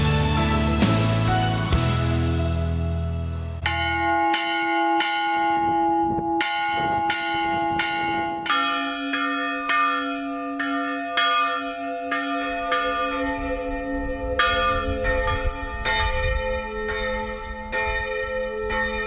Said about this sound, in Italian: Campane in concerto in un giorno di festa, campane solenni per annunciare un lutto, campane dal ritmo angosciante per allertare gli abitanti di un imminente pericolo, campane sciolte per festeggiare battesimi e patroni